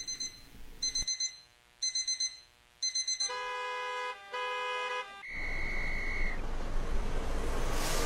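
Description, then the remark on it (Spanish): An alarm clock rings in three quick bursts of rapid beeping, then shifts to a steady electronic tone, before fading into a broad rushing noise. Loud, with no one speaking. “Cada mañana comienza con una alarma que interrumpe el sueño.”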